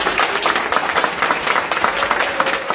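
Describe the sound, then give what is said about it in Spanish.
Hospital staff at an IMSS hospital applaud as a brain-dead organ donor is moved on a stretcher from intensive care to the operating room, many hands clapping at once in a dense, continuous patter that holds at an even level throughout. “Despidamos por favor a Álvaro con un fuerte aplauso.”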